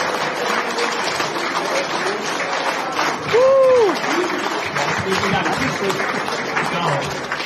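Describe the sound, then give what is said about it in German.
Steady audience applause fills the whole stretch, a dense wash of clapping at an even level, with a brief tonal whoop or whistle rising and falling midway through. “Euer Applaus. Wir sagen Danke an …. Ein Applaus.”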